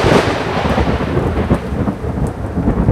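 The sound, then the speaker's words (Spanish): Deep, continuous thunder rumbles loudly over steady rain, a dense low roar that swells and churns without pause for the whole stretch, with no voices present. “Claro que sí, son el trueno y el relámpago.”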